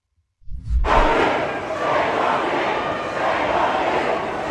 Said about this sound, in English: This is a giant crowd of pro-Hamas protesters who are following a member of the government. The police are trying to spirit this member of government away.